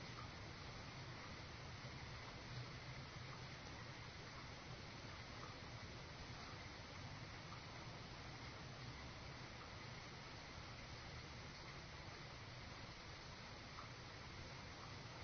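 Steady rain falls in an unbroken, even hiss of dense patter that holds the same soft level throughout, with no voices or other sounds.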